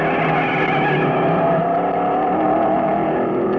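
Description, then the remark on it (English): A scooter engine revs loudly and steadily, its buzzing whine holding strong throughout as it speeds off, with no voices present. “Well, when the lunch was all prepared, Red Riding Hood slipped on her sneakers and hopped on her scooter, and away she went for Grandma's house.”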